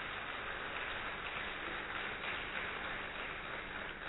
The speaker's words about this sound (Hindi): हम सभी जोरदार तालियों से आप सभी को अभिनंदन करते हैं।